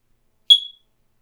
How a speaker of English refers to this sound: That day, the smoke detector started beeping. And it didn't stop. It beeped high up in the wall, 15 feet up, where the sides of the ceiling converged, like an unsatisfied god at the top of an altar.